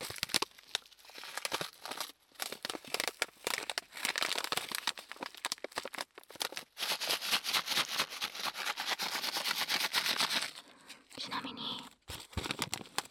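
Crinkling of the plastic bag of a snack called Pachi Pachi Panic, which contains ramune candy, being handled: a dense run of irregular crackly rustles that grows busier and louder midway, then thins to a few scattered crackles.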